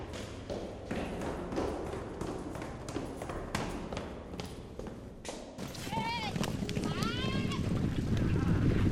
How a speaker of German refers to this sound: Draußen sind wir zum Beispiel auch die Treppen runtergerannt und dann haben wir das aufgenommen. Das war ja auch ein Geräusch. Und die Töne haben irgendwie so einen Rhythmus mit dem Rennen. Ich finde den Rhythmus ein bisschen musikalisch.